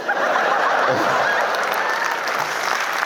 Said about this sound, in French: On applaudit Ludovic